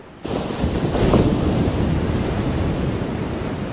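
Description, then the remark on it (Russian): A massive ocean wave on a tropical coast surges in at great speed with a sudden roar, building into a loud, sustained rush of churning water and wind-blown noise that stays powerful throughout, with no voices. “Прямо на них с огромной скоростью неслась водяная гора.”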